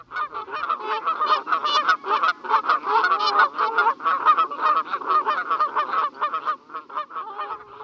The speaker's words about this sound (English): As their name suggests, Canada geese are not native to this country, having been introduced from North America about 300 years ago.